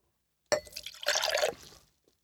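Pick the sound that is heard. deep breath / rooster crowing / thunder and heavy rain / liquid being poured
liquid being poured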